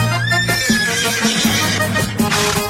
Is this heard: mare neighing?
yes